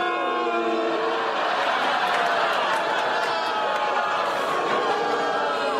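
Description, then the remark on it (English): A large crowd boos steadily, a dense, continuous roar of many voices holding long low jeers. It stays loud and even from start to finish, with no single voice standing out. “What is everyone booing at?”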